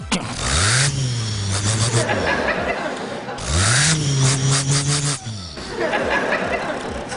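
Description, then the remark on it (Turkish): A man's voice imitates a Ford Transit van engine, producing loud, buzzing rumbles that rise and fall like revving, repeated in three sustained bursts with brief pauses between. “Bir mesela Transit'ten başlasak olur mu? Olur. Tamam. Bu Transit.”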